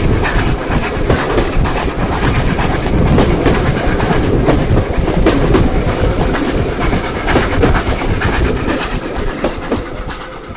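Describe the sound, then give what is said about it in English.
Vintage 1920s–1930s Scottish mainline railway coaches, in maroon and white lined in gold, rumble steadily along the track. A continuous loud rolling roar with faint rhythmic clicks from the wheels, unbroken throughout. “But the interior of these coaches has never been altered or rebuilt, and they show exactly what mainline travel was like on the railway in Scotland in the 1920s and 1930s.”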